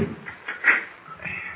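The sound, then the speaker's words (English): The bolts of a door in a wall inside a hollow volcano slide back in a few short metallic scrapes and clunks, the loudest in the middle, fairly quiet with no talking. “Look, there's a door. Now, let's try it.”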